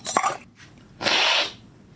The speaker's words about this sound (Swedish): Och den sörplingen gör du för att man vill finfördela, ungefär som en blomsterspruta, den effekten. Sen här dimma vill du nästan få kaffet så. Och sen spottar man ut det med en gång.